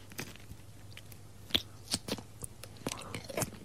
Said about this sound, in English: They're really salty. Yep. Go on. Give it another chew.